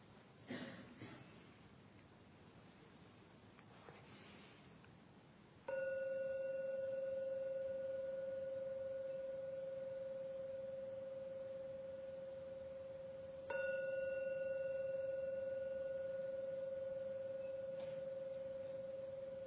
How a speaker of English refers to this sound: Now I've got to ring the gong 3 times. Please listen to every ringing of the gong. And only when the last ringing fades, only then open your eyes to come out the meditation at the end of the 3rd ringing of the gong.